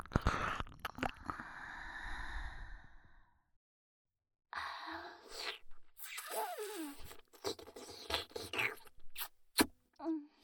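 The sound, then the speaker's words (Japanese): Wet licking and smacking mouth sounds in uneven bursts, with soft breathy sighs mixed in and a brief silent pause partway through. “ペロペロペロペロ”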